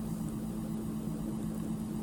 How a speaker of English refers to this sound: The shower sound effects will start. Command me to get in the shower.